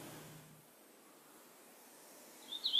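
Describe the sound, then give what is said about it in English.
A hooded warbler's song starts near the end: a few bright, high whistled notes that grow louder after a quiet stretch of faint outdoor hiss. “The use of mnemonics can help us remember bird songs, and some sources use these three words that I just said for the hooded warbler: weet weet weetio, or weet a weet a weetio.”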